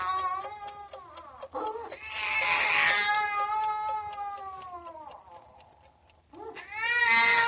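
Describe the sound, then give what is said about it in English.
A baby wails loudly at night, around 1:45, in long, drawn-out cries that rise and fall, pausing briefly for breath before starting up again, with no other sounds around it. “It's the baby, and I better get up and see what's the matter with him.”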